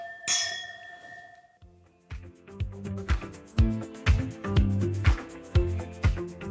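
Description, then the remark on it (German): Wine glasses clink together once in a toast, a bright chime whose ringing tone lingers for about a second before upbeat rhythmic music with steady beats takes over. “Auf ein Wiedersehen, danke, und Prost, Mahlzeit. Prost. Prost”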